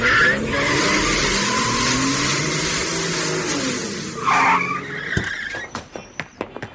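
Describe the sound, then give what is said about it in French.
A car engine roars and revs as the vehicle pulls away, tires screeching sharply in a loud skid, followed by several fading thumps and clatters as it speeds off. “Ah, il faut qu'on aille voir ça, tous dans la voiture.”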